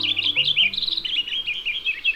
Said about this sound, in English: It's easy to think that most birds, like those we're hearing, prefer the habitats of mature ecosystems.